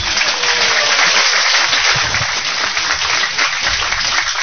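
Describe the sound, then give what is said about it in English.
A crowd applauds steadily, dense crackling claps filling the whole clip at an even, fairly loud level with no pauses and no voices standing out. “Full applause for”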